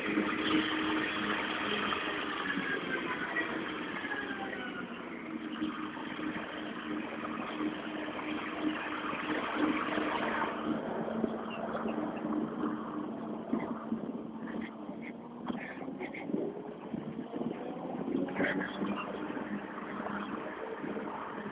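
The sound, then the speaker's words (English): A large lawnmower engine drones steadily for the whole stretch, a loud rough rumble with a wavering mechanical whine, shifting slightly in pitch partway through, and no voices over it. “the reality of it is I'm not going to be able to talk loud enough to be heard over this huge lawnmower.”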